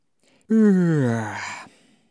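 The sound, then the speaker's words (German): A single long, voiced yawn lasting over a second, its pitch sliding steadily downward and trailing off into a breathy exhale. There is no speech around it. “… gähnt, erkennt die Geschichte in- und auswendig.”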